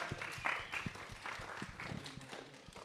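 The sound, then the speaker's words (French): An audience applauds guests while they take their seats, a dense wash of many overlapping claps at a steady moderate level, with scattered sharper hand claps standing out throughout. “Et on peut d'ailleurs les applaudir le temps qu'ils s'installent.”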